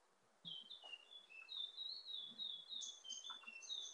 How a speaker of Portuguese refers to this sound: Ouvindo os passarinhos do doutor Celso. Ouvi, bonito o canto agora. Tá bonito.